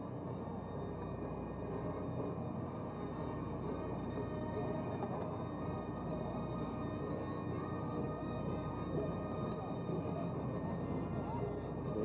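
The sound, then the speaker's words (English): A TWA Boeing 707 jetliner idles on the tarmac, not yet moving, as its back stairs are rolled away; its engines give off a steady, unbroken roar with a faint high whine layered on top, holding at a constant loudness throughout. “TWA 707 still not moving, but about to momentarily.”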